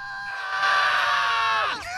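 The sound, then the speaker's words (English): Loud, shrill screaming from the characters Oscar, Ernie and Bernie screaming at one another, held for nearly two seconds, with voices seeming to overlap, before the pitch suddenly drops away at the end. No words are spoken. “They scream at one another.”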